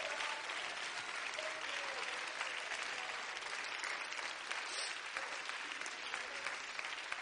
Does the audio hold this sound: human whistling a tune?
no